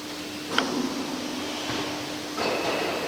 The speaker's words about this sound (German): Das war die Fallbremse.